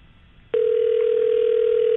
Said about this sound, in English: Yeah, I don't think he's answering the phone. No, I don't think he's answering the phone.